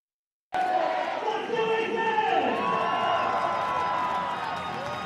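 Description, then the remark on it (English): A baseball stadium crowd in Reno, being hyped up as the Tacoma Rainiers lead Reno 6-4 going to the bottom of the ninth inning, roars steadily, with scattered shouts and whoops rising over a dense, continuous wash of cheering that starts abruptly and holds loud for several seconds. “They're trying to hype up the crowd in Reno as the Rainiers lead Reno 6-4 going to the bottom of the ninth inning.”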